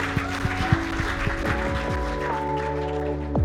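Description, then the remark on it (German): A crowd at an Ecclesia Bielefeld church service claps steadily throughout, giving Jesus a big round of applause after a prayer, a dense wash of applause mixed with sustained musical tones and a few sliding pitches underneath. “Komm, wir geben mal Jesus einen riesen Applaus für alles, was er getan hat.”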